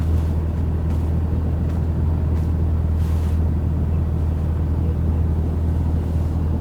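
A car engine hums steadily at low revs, a continuous droning rumble as the vehicle slowly reverses about one more meter into a parking spot, with no clear breaks or speech.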